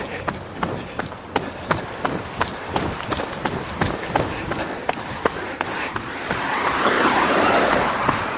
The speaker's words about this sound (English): So this is the quiet neighborhood that I live in Victoria, BC.